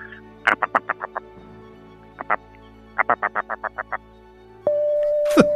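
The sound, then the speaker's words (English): A voice imitates the contented call a gull makes while dabbling around over rocks: quick runs of short, nasal, evenly spaced notes in two main bursts, followed by a long steady tone that ends with a sharp squawk. Clear. “The content sound is something like this.”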